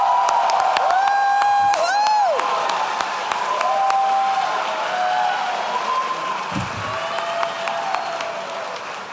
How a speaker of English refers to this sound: Please join me in a round of applause for our Bachelor of Science in Policy Analysis and Management graduate.